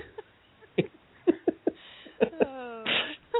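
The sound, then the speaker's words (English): A single sneeze: a drawn-out voiced intake that slides downward, then a sharp, noisy burst. Several short clicks and snuffly breaths come before it, with no speech. “Bless you”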